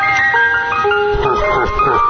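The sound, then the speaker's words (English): A tinkling ice cream truck jingle plays a simple stepwise melody of steady, bright electronic tones, fairly loud, with some murmuring voices and low rumbling noise underneath. “Oh, dear God, no, it's coming. I hear the music.”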